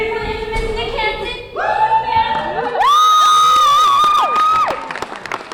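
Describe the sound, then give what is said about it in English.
A crowd of students and teachers in the bleachers of a school gymnasium at a youth leaders conference in Unalakleet cheers and shouts, many high-pitched voices swelling into a loud, sustained roar that peaks midway and holds before tapering off, echoing. “All right, crowd, are you ready for this?”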